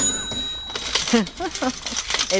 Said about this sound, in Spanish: El de la caja registradora.